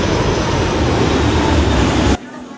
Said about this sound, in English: Welcome back. A jet flying over. Yes, we're landing jets tonight. At the Gladstone and Hy-Vee.